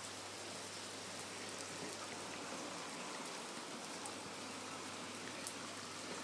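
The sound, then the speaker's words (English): Steady rain falling straight down with no wind and dripping through trees, a soft, even hiss with scattered brighter patters of drops, constant throughout with no voices. “Dripping through the trees.”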